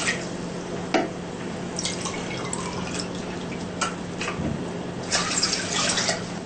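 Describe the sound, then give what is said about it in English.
Water is poured into a cooking pot for a pear stew, splashing and trickling steadily with brief sharper splashes and drips over a continuous low hum, moderately loud, with no talking. “So we put water into pot first.”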